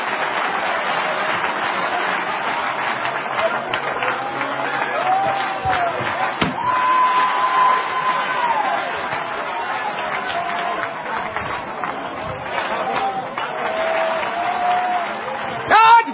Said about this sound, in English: Don't tell me he doesn't want to do that for his church. Clap your hands if you believe it.